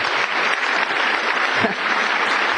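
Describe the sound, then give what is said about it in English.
An audience claps steadily, a dense, even wash of many hands with no pauses, loud throughout, and a faint voice surfacing briefly near the end. “She deserves applause.”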